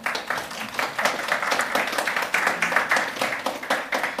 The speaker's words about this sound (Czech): Možná poprosím potlesk.